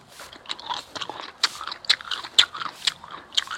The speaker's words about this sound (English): That's the chinch bugs eating up my grass.